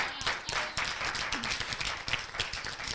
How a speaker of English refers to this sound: Stand on your feet. Praise the Lord. I praise the Lord. Let's give the Lord a big clap offering.